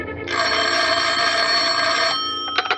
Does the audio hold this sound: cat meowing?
no